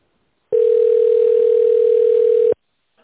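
A telephone ringback tone: one steady, mid-pitched electronic beep lasting about two seconds at constant loudness, with silence before and after and no voices.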